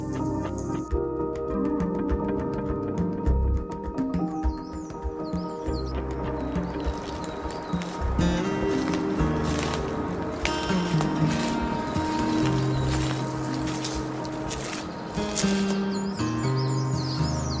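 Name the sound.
crested tit calling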